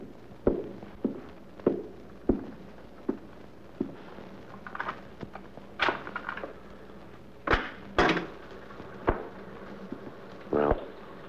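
Someone pounds on a door: about a dozen heavy, irregularly spaced thuds over eleven seconds, some single, some in quick pairs, with a few louder bangs toward the end.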